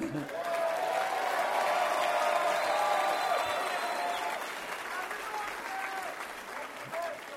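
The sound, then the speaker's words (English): A crowd claps steadily for several seconds after a speech in Hudsonville, a dense, even wash of applause with faint crowd voices mixed in, gradually thinning toward the end. “In Washington, I would on occasion give speeches on the House floor, but I never got applause, so that's why I like to give speeches outside Washington.”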